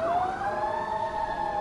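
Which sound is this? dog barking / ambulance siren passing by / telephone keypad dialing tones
ambulance siren passing by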